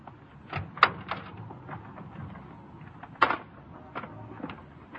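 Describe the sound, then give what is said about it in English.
An unlocked car door is unlatched and pulled open: a few sharp metallic clicks and thuds over a low rustle of handling, with no voices. “The car wasn't locked. I opened the door, and...”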